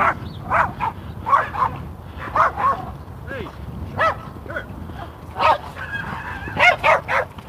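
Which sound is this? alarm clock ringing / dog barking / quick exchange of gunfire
dog barking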